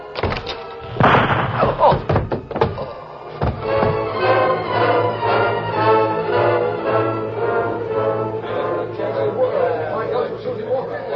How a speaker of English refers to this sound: Then he knocked out the ashes against the heel of his boot, studied the sky a moment, and opened the door.